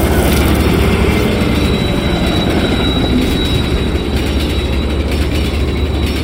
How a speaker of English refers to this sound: as I watched the train thunder by the place where Trick used to be